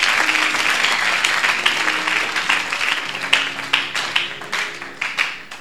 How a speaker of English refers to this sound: Tell him it is your key to receiving God's blessings. Clap your two hands if you understand.